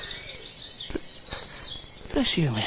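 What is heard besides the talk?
nightingale singing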